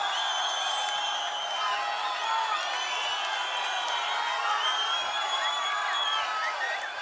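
A large crowd shouts together in a dense, continuous roar of overlapping voices, steady and fairly loud for the whole stretch, with no single voice standing out.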